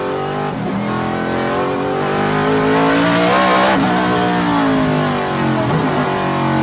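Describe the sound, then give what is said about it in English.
A race car engine revs hard and loud, its pitch climbing and sweeping through harmonics, dipping briefly, then rising again in a sustained roar with no voices. “See what look at that Cadillac. See what that thing's making on the. Yeah, let's hear this thing tack up.”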